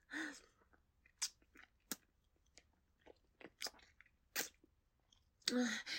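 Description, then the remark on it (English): Wet kissing and sucking mouth sounds during oral sex on a penis: a quiet run of irregular smacks and slurpy clicks, ending in a louder, breathier burst. No speech. “Kissing. Sucking.”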